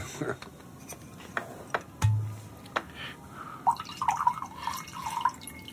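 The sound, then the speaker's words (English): A few sharp taps and clinks, then wine glugs and trickles into a glass, its gurgling tone rising steadily as it fills over a couple of seconds. “Would you like to pour out some wine for your elderly lover?”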